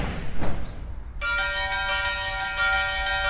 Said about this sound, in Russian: Сердце открывается навстречу, и льется звон. Он и внутри церкви, и в то же время слышен во всех обыденских переулках. А то и дальше. Колокола были звучные.